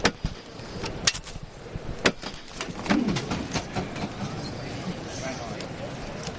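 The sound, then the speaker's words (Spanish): A foreman's hammer strikes the procession float (paso) of the Cristo de las Almas in a few sharp, evenly spaced knocks about a second apart, followed by softer taps, over a steady murmur of crowd voices. “lo anunciaba la hermandad en redes sociales y escuchamos el martillo.”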